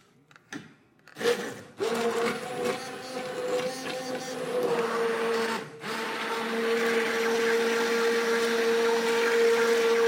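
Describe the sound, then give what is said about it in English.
An immersion blender whirs steadily through soup right in the pan, a loud motor whine with a churning, sloshing texture that starts after a brief clatter and runs continuously to the end. “But where the immersion blender just goes in there, it just goes right into the pan.”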